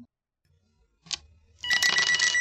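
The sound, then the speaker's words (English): A telephone rings loudly, a continuous metallic bell jangle that starts abruptly after a short quiet pause and a brief knock, then keeps ringing to the end. “Hey, Debbie, Marcy's on the phone. She wants to talk to you.”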